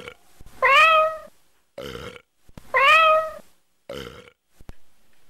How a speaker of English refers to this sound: I don't think it's belching. I'm sorry. What do you think it is? Well, I can't even tell what end it's coming out of, you know? Sir? Sir? Pull your cat away from the phone, sir.